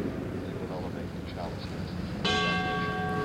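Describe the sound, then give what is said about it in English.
A single altar bell is struck sharply partway through as the chalice is raised for the audience during Mass, its bright metallic tone ringing on steadily, following a stretch of soft indistinct voice and murmur. “And once again the bell rings as the chalice is raised for the congregation to see and worship, and Archbishop … genuflects, and the Mass continues.”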